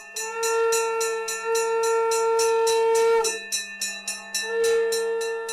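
A forest guard strikes a gong with a wooden mallet in a rapid, steady rhythm during a puja ritual at a goddess shrine, while a conch shell is blown with a loud, sustained droning note that breaks off briefly partway through and then resumes.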